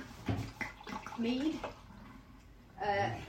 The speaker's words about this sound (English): Smells just like water. Yeah, that's going straight down the sink.